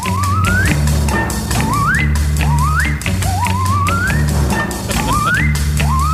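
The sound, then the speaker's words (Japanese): A musical saw repeatedly sweeps upward in wavering, whistle-like glides, about five rising swoops over a full, loud backing of steady bass and rhythmic instruments. “これは相当すごいノコギリプレイですよねこれね。”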